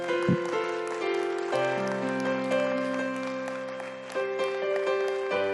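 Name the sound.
audience clapping hands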